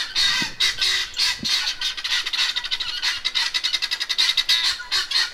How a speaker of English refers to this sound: Otherwise, my only sound enemies are things like the washing machine downstairs, which I can turn off, but I haven't yet learned how to turn the guinea hens off.